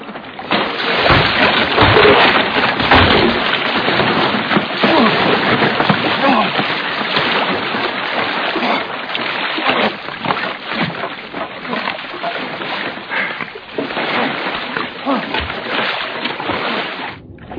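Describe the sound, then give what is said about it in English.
Loud water splashing and sloshing continues throughout, a dense churning wash with frequent irregular bursts, as if someone is thrashing or paddling through water. “Now what you gonna do? Splash me.”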